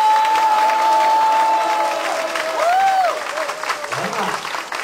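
An audience breaks into steady, loud applause lasting several seconds, dense clapping with a long whistle-like tone early on and a brief rising-falling whoop in the middle, applauding the married and dating couples in the audience who work together as distributors.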